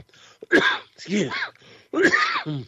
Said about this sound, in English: Excuse me, so I got that cough.